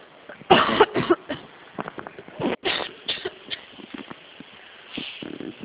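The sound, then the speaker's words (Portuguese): A loud burst of coughing, two or three harsh coughs in quick succession, followed by a few softer coughs and throat noises spread out over the next few seconds. “Eu acabei dando uma tossida aqui.”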